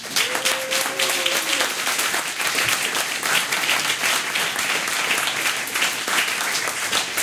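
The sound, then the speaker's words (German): A crowd applauds the organisation team steadily for several seconds, dense overlapping claps at a constant loud level, with a brief faint whistle-like tone early on. “Und ich finde nochmal einen großen Applaus für das Organisationsteam, oder?”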